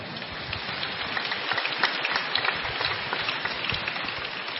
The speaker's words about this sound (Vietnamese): Kính thưa cộng đoàn, chúng ta cho một tràng pháo tay để chào đón cô bé ấy,